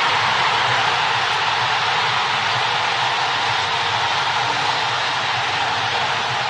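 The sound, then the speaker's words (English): A dense, steady roar of a large stadium crowd cheering a goal by Escobar in the U.S. versus Guatemala match, loud and unbroken for the whole stretch, a broad wash of voices with no single caller standing out. “I mean, you know, that's the kind of crowd noise, the cheering that you hear in the Mike Bush household when it comes to pay raises.”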